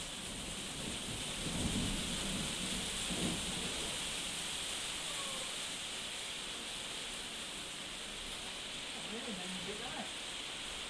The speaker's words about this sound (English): Is that more thunder? Don't know. That sounds a bit like hail. Oh, yeah, more thunder.